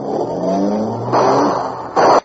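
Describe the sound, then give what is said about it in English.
A car engine revs loudly and climbs in pitch as it accelerates: the Green Hornet's car careening through city streets on a run from police. Rushing bursts of motor noise follow, then a sudden cut-off near the end as the car halts. “There was no escape from the careening car that dashed through city streets, hitting through John Kerr.”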